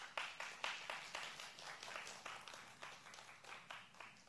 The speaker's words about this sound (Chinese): 阿们的拍手，把荣耀归给神。